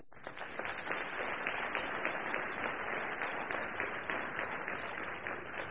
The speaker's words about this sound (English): I didn't join a bad military in 1975, but I left a better one, and it's because of those young people, and I think they deserve our applause.